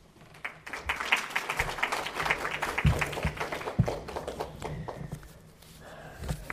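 A crowd claps steadily for several seconds, applauding a woman present who donated a kidney to someone in need; a dense patter of many hands that holds at moderate loudness and then thins out toward the end. No one speaks over it.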